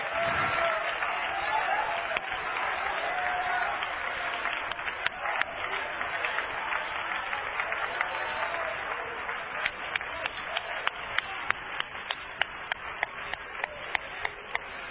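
A crowd claps together in a dense, sustained wash of applause, with sharper individual claps standing out as the sound thins toward the end, plus faint voices mixed in.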